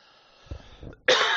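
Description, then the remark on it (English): Two muffled, low coughs come close together, then a sudden loud, harsh burst of noise that fills the rest of the moment, with no talking. “I am really sorry about the coughing.”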